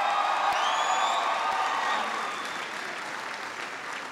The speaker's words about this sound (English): a big round of applause for the outstanding introduction